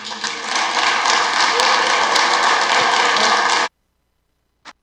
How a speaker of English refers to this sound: So you're going to hear that clapping, and I left that in because it wasn't just Democrats clapping. It was also Republicans clapping last night.